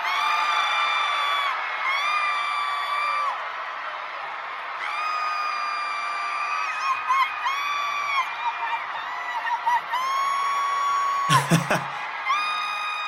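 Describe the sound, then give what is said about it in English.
Excited, high-pitched screaming by a person at a Sony corporate event, recorded on a video, rings out loud in long held shrieks that rise and fall in pitch, almost without a break, with a brief sharp clatter near the end. “I started to scream like a 15-year-old girl. And I mean scream. Here's the audio from a video I was recording.”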